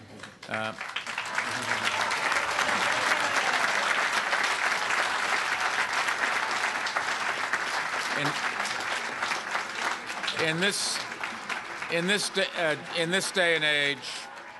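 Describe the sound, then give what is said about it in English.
A large crowd erupts in sustained applause and cheering at an announcement event for Cornell and the Technion, loud and steady for about ten seconds before tapering off as a man's voice begins speaking over the fading claps. “If they give a loud enough cheer, maybe we'll hear them all the way over here.”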